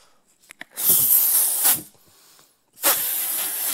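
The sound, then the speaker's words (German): Two long, forceful breaths are blown into a balloon by mouth, each an airy rush about a second long, with a short pause and faint clicks before the first. “Allein das Aufblasen ist schon anstrengend so.”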